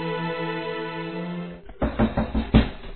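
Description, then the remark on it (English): A sustained musical tone fades out, then a handful of loud knocks on an apartment door land in a quick, slightly uneven sequence. “Raven has just hung up from a phone call with Alexandra when she hears a knock on the door”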